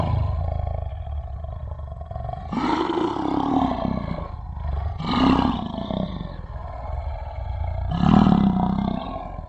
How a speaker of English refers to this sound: Off in the distance, as you wake up, you once again hear the sound of the tiger's roar.